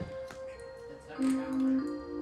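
A wall clock chimes the melody it plays at certain times, sustained bell-like tones stepping between pitches at a moderate, steady level, with faint background noise and no clear speech.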